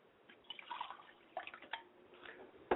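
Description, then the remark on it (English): A liquid libation poured to Yamanja in a spiritual ritual trickles and drips in small, irregular splashes, quiet and unaccompanied by talk, ending with one sharper, louder splash. “I pour libations to Yamanja, my Mother, Spirit, and I say Ashe.”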